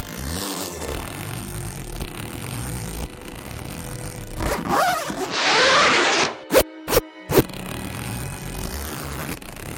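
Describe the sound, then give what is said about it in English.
A clothing zipper on a person's clothing is pulled up in one smooth rasping stroke by someone holding a drink in the other hand, followed by a few quick sharp clicks, with a faint hum of background noise around it. “I can hold a drink in one hand and zip you up with the other.”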